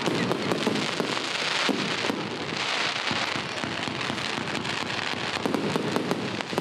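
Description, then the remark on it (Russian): Festive fireworks salute at a celebration in Essentuki in the Caucasus, crackling and popping continuously, a dense barrage of sharp bursts and rumbling booms echoing, loud and sustained with no voices. “А еще фаер-шоу, трюки с огнем и праздничный салют.”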